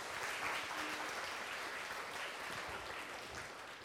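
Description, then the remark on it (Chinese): Sustained applause from a lecture audience welcoming a Buddhist master as speaker fills the whole stretch, a dense, steady clatter of many hands clapping at once with no gaps, even in loudness throughout. “时间很宝贵，我的话就到这里，大家鼓掌，热烈的欢迎。”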